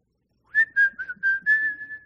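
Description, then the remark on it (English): A short, breezy whistled tune of about five connected notes at a steady pitch, clear with nothing else behind it, lasting around a second and a half. “And he whistles his way right down to the evil of Sodom.”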